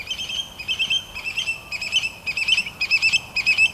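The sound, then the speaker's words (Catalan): A scops owl calls repeatedly at night on Ibiza, about seven shrill, warbling bursts in steady rhythm, clear over a quiet background with no one speaking. “Aquest segur que l'has escoltat, tots els oients l'hauran escoltat, i igual que passava amb el pu-put, aquí tenim un altre ocell que diu el seu nom. Què diu? Xabel·lí, xabel·lí, xabel·lí, xabel·lí.”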